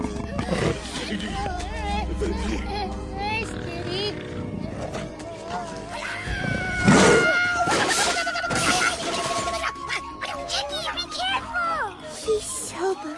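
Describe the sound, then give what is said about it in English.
A wild cat yowls and roars loudly in a busy, chaotic scene, its snarling cries rising over crashing and shattering noises, with voice-like sounds mixed in throughout. “Nigel's Strawberry plays with wild aminals all the time. He'll get us out of this scrape. Does Kitty want a mousie?”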